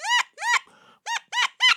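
chickens clucking

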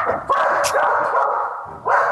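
dogs barking

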